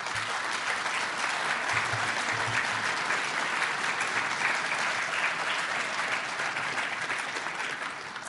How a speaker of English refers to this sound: and there was a very professional policing operation, which in my opinion, there is no equal anywhere in this planet, and I think those officers demand a round of applause.